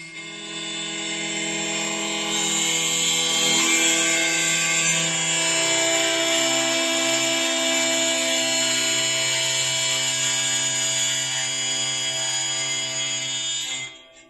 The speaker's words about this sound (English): It's actually – this is a wheel harp